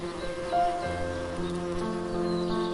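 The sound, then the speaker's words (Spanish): Soft, steady buzzing of bees among the flowers of a sunny garden, several droning tones overlapping and shifting in pitch as they drift. The hum is continuous and gentle, with no voices. “Siente la suavidad de la brisa acariciando tu piel y escucha el zumbido suave de las abejas que danzan entre las flores.”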